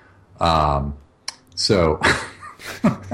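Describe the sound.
Keys clack on a computer keyboard in a few scattered bursts as someone types text during a website-building demonstration, mixed in with a voice making drawn-out, wordless vocal sounds over the typing.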